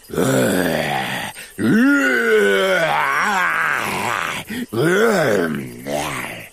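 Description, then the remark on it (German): A voice imitates the mighty roar of the lion in a German children's story: three long, loud, growling bursts with rising and falling pitch, separated by brief pauses. “Der Löwe stößt ein mächtiges Gebrüll hervor.”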